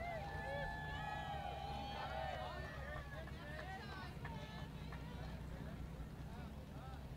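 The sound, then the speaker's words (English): The engine of the Magic, a 26-foot sport fishing boat carrying passengers, idles with a steady, low, throbbing rumble as it comes alongside the dock, while bright chirping and squeaking tones and faint background chatter flicker above it. “Transporting some last-minute passengers is the 26-foot sport fisher, the Magic, captained by one of the finest captains in the bay”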